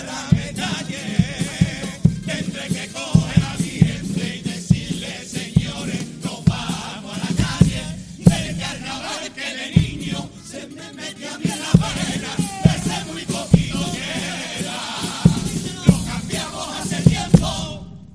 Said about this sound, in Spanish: Pues ahí está el segundo de los pasodobles, tremenda la ovación en el teatro.